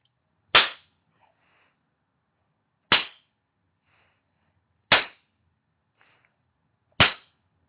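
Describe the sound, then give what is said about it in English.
Four sharp, loud hand slaps spanking a person's buttocks land one at a time, roughly two seconds apart. Each is a crisp smack that dies away quickly, with near silence and no voices between them. “Spank me harder now.”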